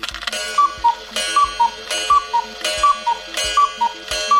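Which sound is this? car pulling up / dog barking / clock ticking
clock ticking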